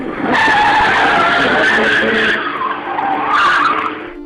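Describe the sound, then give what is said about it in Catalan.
A van carrying prisoners brakes hard on arriving at a prison, its tires skidding in a loud, sustained screech that lasts about four seconds, wavering in pitch and swelling again near the end before cutting off. “La frenada que va fer aquell furgó en arribar a la presó no podia haver estat imprevista.”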